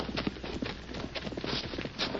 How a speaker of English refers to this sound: Hold it. Hmm? Listen a minute. Someone coming. Yeah, hear a horse.